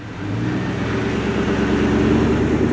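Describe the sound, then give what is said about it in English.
A car driving along at a steady pace on a short drive, its engine humming low and constant with a broad rumble of road noise. No one speaks. “He strangled her, then put her body on the floor of his car and set out for a short, familiar drive.”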